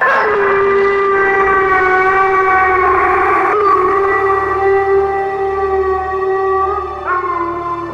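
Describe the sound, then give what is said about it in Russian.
A loud, sustained howl holds a high, mournful tone for several seconds, wavering slightly and shifting pitch a couple of times, with no voices alongside it. “Скорбный стон, который затем превратился в пронзительный вопль. Какой это был страшный, жуткий вой.”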